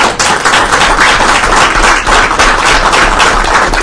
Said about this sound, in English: I want to give the chair a little hand.